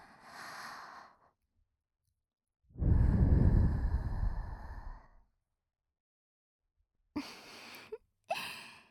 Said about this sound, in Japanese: 少しは満足していただけましたか？こんな近くから吐息をもらうなんて思いもしなかったでしょう。でも、こういうのがくすぐったいんですよね。